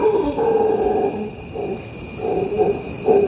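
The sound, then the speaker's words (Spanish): Howler monkeys roar from far away in a nature reserve on the banks of the Magdalena River, Colombia, in a series of deep, throaty bursts, made with a pouch under the jaw, that swell and fade, over a steady background hum of insects or forest ambience. “A lo lejos se oye el rugido de los monos aulladores.”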